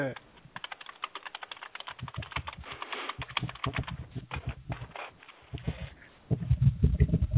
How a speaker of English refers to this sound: Wait, you don't like my typing sounds? Multitasking. Well, multitasking will be doing them both at the same time. You're just ignoring us and typing. No, I'm not ignoring you and typing. I'm typing and talking to you